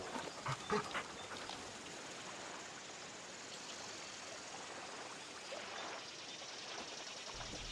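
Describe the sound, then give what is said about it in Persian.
A dog pants steadily and breathily for several seconds, with a few brief, faint whimpers near the start, all fairly quiet, with no one talking. “سگ بد.”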